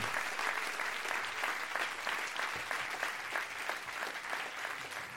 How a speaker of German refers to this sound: Einen Applaus, wo ist er?